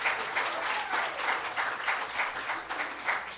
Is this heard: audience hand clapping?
yes